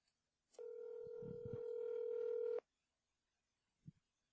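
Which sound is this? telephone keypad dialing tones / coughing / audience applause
telephone keypad dialing tones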